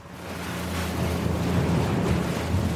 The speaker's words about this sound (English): I'm on a fast rib just heading north out of Stonehaven through big drifts of herring gulls and immature herring gulls and those gannets, and I even saw a skua back there.